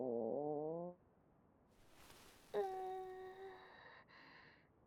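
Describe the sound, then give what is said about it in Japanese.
A cartoonish stomach growl: a wavering, moaning rumble lasting about a second, then after a short pause a louder gurgling tone that slides and slowly fades. No one speaks. “あんたのお腹が鳴ったんじゃないの？”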